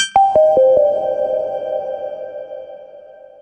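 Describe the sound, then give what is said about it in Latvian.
Eerie sonified tones made from changes in Earth's magnetic field about 41,000 to 42,000 years ago, offered by livescience.com: four quick percussive onsets launch descending pitched notes that merge into a sustained, ringing drone, slowly fading, with faint high steady tones above and no voices. “Lūk, mums šobrīd ir iespēja klausīties spokainas skaņas, ko ir radījušas Zemes magnētiskā lauka izmaiņas pirms aptuveni 41 līdz 42 tūkstošiem gadu.”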